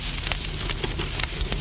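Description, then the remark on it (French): A fire crackles in a fireplace, with irregular sharp pops and snaps over a steady low rumble of flames. No voices are heard. “Odile, juste au moment où elle va jeter la photo dans la flamme, la voit.”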